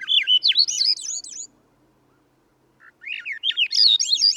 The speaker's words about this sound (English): The song of a Swainson's thrush spirals upward as we begin a hike in the mountains of the West.